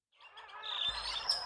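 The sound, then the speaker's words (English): Golden lion tamarin calls: shrill, bird-like chirps and trilling whistles overlapping in a quick, continuous burst, clear, with no one talking. “Golden lion tamarins live in Brazil.”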